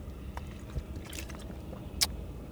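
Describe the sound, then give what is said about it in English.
Someone takes a quiet sip of water, with soft wet mouth and swallowing sounds, a few faint clicks and one sharper squish near the end, and no talking. “I'm going to drink a water.”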